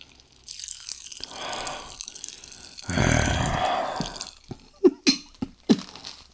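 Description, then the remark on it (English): Pop rocks candy crackles and fizzes in two hissing bursts, then gives way to a few sharp, wet little pops near the end. No one speaks. “Pop rock growling. Baby, you have got me pop rock growling for you.”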